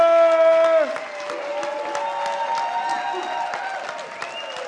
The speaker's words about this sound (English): And we want to say happy Father's Day to the spiritual father of this house. Can I have everybody stand up? Let's give a round of applause for our pastor,